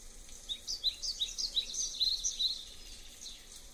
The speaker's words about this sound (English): Quiet the rain, and louder bird sounds.